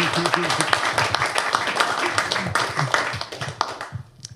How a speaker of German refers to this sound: Applaus.